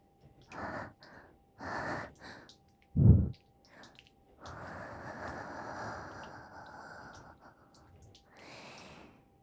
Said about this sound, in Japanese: 感じちゃうでしょ。熱い吐息がお兄さんのお耳にかかってるの。